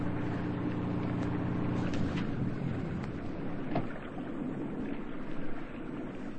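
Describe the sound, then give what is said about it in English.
A boat engine drones steadily, then is shut off abruptly after about two seconds, leaving only faint water and wind noise, as the boat stops near the shoals off Caicos while it is still dark. “We're near the shoals. Kill the engine.”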